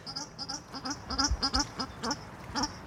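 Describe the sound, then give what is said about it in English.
A paradise shelduck, also called New Zealand shelduck, calls at a 9-acre bird site holding about 600 birds, in an antipodean area with emus and wallabies. It gives a rapid, uneven series of nasal, honking notes, about a dozen in under three seconds, fairly loud and with no voices over it. “He's a paradise or New Zealand shell duck.”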